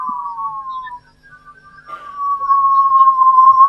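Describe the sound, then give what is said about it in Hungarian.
Audio-frequency electromagnetic waves, stirred up near Earth by particles streaming out from the Sun, picked up by two antennas fed to headphones: a thin, steady whistling tone that wavers and glides slightly in pitch, fading briefly before returning louder over a faint hiss, with no voices. “A kiáramló részecskék hullámokat keltenek a Föld közelében, elektromágneses hullámokat, és ha két antennánkra egy fülhallgatót teszünk, ezek a hangfrekvenciás hullámok, halljuk, ez a szférák zenéje, így énekel a környezetünkben a naprendszer”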